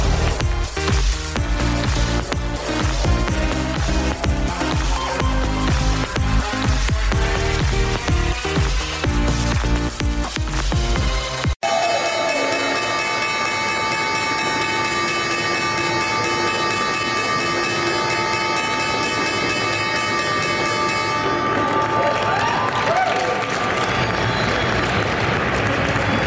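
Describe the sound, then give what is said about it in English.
A loud, sustained electric bell rings continuously for several seconds over a crowd's steady applause and cheering, following an opening stretch of busy, rhythmic music. It is the opening bell starting another trading week at the New York Stock Exchange on Wall Street. “Was the opening bell starting another trading week here on Wall Street at the New York Stock Exchange.”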